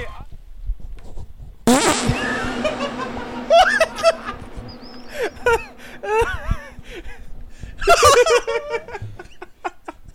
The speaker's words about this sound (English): All right. That's going to be the new fart clip.